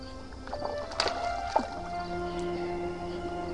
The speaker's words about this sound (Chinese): 海面黑漆漆的，尽头还有一丝亮白，天边几颗星星闪烁起他调皮的眼睛，船在海上随着海浪荡漾航行。